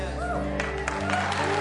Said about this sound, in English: You know why we're clapping for you? Because you're worth it.